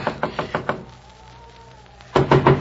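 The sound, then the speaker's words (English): A rapid series of loud knocks on a door in the snow, someone trying to wake the old man inside, about five raps, then a short pause before another quick burst of knocking. Insistent, with no voices. “open up the door.”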